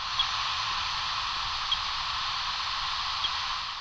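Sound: beeps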